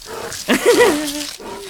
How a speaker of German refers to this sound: Hey. Bist du ein Bär? Willst du ins Camp? Ein Bär.